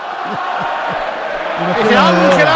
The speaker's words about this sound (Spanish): se retira del campo Jaime Mata y entra con esta ovación que escucháis de fondo, Ángel Rodríguez.